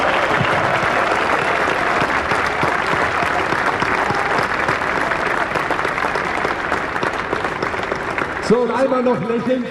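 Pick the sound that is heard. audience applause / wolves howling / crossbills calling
audience applause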